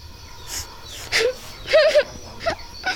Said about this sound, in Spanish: Pues estás de suerte, porque yo veo fuera de esa casa una humana, aunque parece que está llorando.